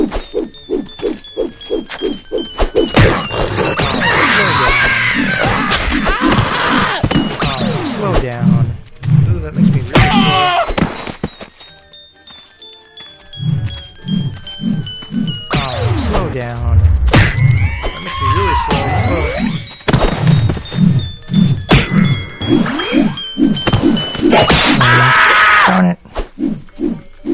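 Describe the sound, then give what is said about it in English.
Punchy video game punch impact effects, a rapid string of thuds and whacks with occasional shattering crunches, sounding loud over steady talking and busy game sounds. “Makes my punches have less range.”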